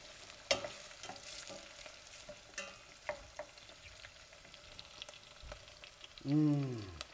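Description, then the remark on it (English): Steady sizzling of bell pepper frying in a pan, with scattered clicks and scrapes of a utensil stirring, and a brief louder tonal scrape near the end. “And with the bell pepper, make sure that you keep stirring in until it gets really soft.”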